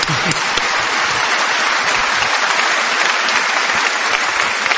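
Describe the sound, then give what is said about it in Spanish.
Dense, steady applause for Albert Camus from an audience, many hands clapping at once in a sustained loud wash of sound that holds evenly for several seconds without talk. “Hay que aplaudir a Albert Camus, por favor.”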